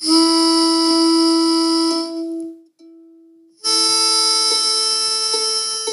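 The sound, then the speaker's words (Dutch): Sustained reedy whistle tones from a ukulele pitch pipe sounding the G note, loud, holding a steady note, dropping out briefly near the middle, then resuming with another long blown tone. No talking. “Stemfluit, ik heb nog nooit de stemfluit gezien bij een ukulele.”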